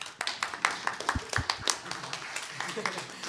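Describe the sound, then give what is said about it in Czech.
A short burst of applause on a show as King David is introduced as a guest, with several pairs of hands clapping in a quick, irregular patter at moderate volume for about three seconds, with faint voices murmuring underneath. “Prosím, poplesk.”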